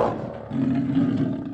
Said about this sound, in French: Un lion ! Un lion ! Un lion très méchant et qui peut vous manger !